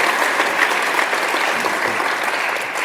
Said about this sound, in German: Vielen Dank. Ein Applaus für ihn erstmal für alles, was er schon getan hat.